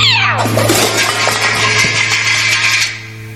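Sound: cat meowing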